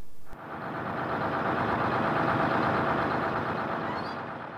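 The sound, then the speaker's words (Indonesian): A heavy engine of a bus bound for Jogja, arriving from the east and stopping for waiting passengers, rumbles steadily, a deep broad growl that swells slightly in loudness and then eases off a little at the end, with no voices. “Aku ngadeg amarga saka wetan bis jurusan Jogja wis katon jedul saka inggo-inggoan.”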